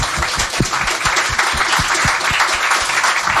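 A burst of audience applause, many hands clapping densely and steadily at a fairly loud level throughout, with no one speaking over it.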